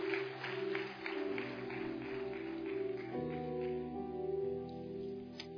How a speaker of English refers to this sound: Let's give these folks a big, big hand clap as they're coming. We love them. We appreciate them.